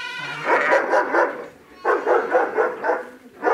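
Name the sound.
dog barking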